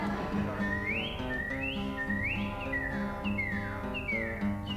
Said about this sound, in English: That's not only is that the West Virginia state bird, several other states do have the same bird. Now the Cardinal has other songs besides that one most usually.